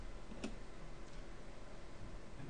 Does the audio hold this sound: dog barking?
no